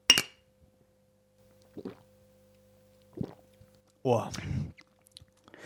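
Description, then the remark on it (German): Beer glasses clink once, sharp and close, in a toast, followed by a few faint knocks and sipping sounds, then a short, wordless vocal exclamation. “Zum Wohl, mein Lieber. Prost.”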